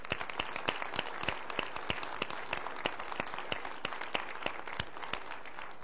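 A crowd applauds steadily as a warm welcome for a group of children and their leader, dense overlapping claps forming a continuous wash with a few sharper individual claps standing out, sustained at an even level with no voices.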